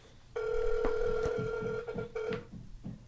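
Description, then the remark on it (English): A phone line rings out with a steady, buzzing ringback tone that holds for about two seconds, pauses briefly, then starts again while the call waits to be answered. No one speaks. “Why she ain't answering the phone?”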